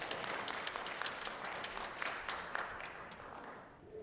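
Steady applause from an audience, many hands clapping in a dense, even wash of sound that holds for a few seconds before thinning slightly at the end.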